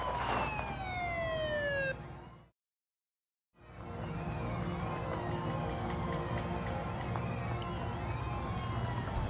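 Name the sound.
approaching police car siren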